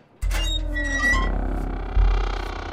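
door creaking open

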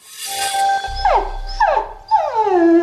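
dog whining

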